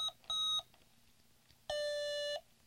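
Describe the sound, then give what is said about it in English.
Electronic beeps from a small computer pad as its buttons are pressed: a quick high tone, a short pause, then a longer, lower steady tone. Clear, with no voices. “Let me check my little computer pad.”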